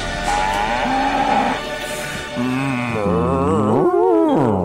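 A cow moos loudly in two long, drawn-out calls, low and throaty, the second swelling upward in pitch before sliding back down. No one speaks.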